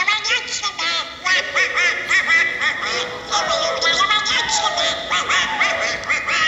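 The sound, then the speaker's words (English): The raspy, garbled voice of the Disney character Donald Duck quacks out a continuous run of squawky, speech-like babble, loud, with rapid rising and falling pitch and no other sounds behind it. “Yes, Donald Duck. You know that Disney character, whatever.”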